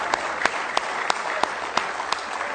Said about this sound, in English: Give Him a real good hand clap of praise. He's worthy of it tonight, church.